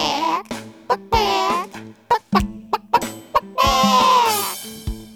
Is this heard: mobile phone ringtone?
no